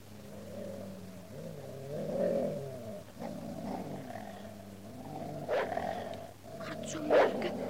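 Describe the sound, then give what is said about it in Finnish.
Several dogs growl low and continuously, with sharper barks breaking out near the end. The sound is fairly loud, with no talking. “Me pelkäämme kovin niitä koiria.”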